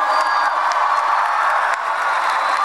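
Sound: audience applause and cheering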